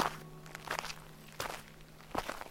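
Footsteps crunch along a hiking trail leading to a small clearing, in a slow, uneven rhythm, each step a short gritty burst over a steady low hum, with no one speaking.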